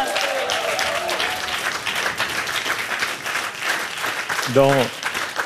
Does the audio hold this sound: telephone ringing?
no